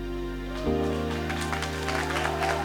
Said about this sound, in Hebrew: קודם כל כפיים